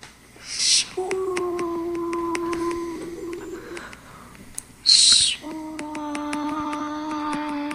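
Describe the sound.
A voice imitates ocean waves with two breathy, hissing rushes a few seconds apart, mixed with sustained hooting, tonal vocal sounds at a moderate level.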